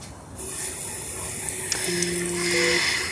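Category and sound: household object, water pouring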